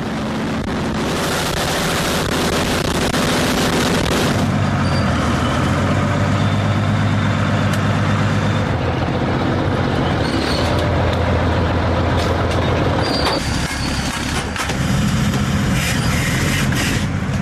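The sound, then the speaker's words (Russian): A 45-ton self-propelled artillery vehicle's engine roars loudly and steadily as it drives, raising a wall of dust, with deep rumbling, clanking, and a brief hiss partway through, and no voices. Soldiers are racing to a firing position after receiving target coordinates. “45-тонна артустановка здіймає стіну пилу. Бійці мчать на позицію відразу після отримання координат цілі.”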